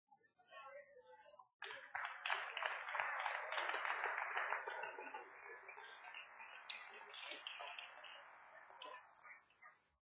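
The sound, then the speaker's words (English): After a brief quiet moment, an audience breaks into dense, steady applause of many hands, loud, continuing for several seconds before gradually thinning out and fading at the end. “You clapping up.”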